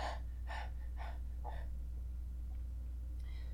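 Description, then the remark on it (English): Rapid, heavy hyperventilating breaths, four quick gasping pulses in a steady rhythm about half a second apart, then trailing off into quieter breathing. Fairly loud, with no talking. “She lies there, just hyperventilating, breathing in and out.”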